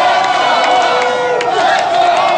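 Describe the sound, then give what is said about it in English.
A large crowd of Chicago Blackhawks hockey fans in the streets outside the United Center in Chicago chants "Let's go Hawks" and cheers, celebrating a Stanley Cup championship: a loud, steady roar of many voices with yelling and whoops rising above it for the whole moment. “Let's go Hawks, those people were chanting.”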